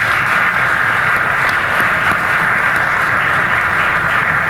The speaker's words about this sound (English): And again, this will be the only time that we applaud during this 30-minute session. Again, let's give all five candidates a round of applause.